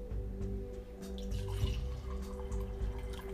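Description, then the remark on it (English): Wine being poured into a cup, a steady trickle and splash of liquid lasting a few seconds, over a low constant background hum, with no talking. “Had to pour me a cup of my wine.”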